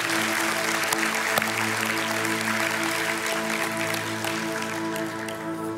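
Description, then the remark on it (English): A church audience in Apopka claps steadily for several seconds for a child's baptism, a dense continuous patter of many hands at an even loudness, with sustained low musical tones humming underneath and no one speaking. “As you could definitely clap for that.”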